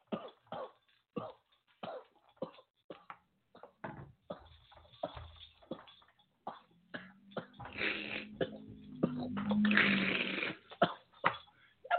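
A run of sharp coughs in quick bursts, building into a longer, strained stretch of gagging and throaty retching before a few final coughs.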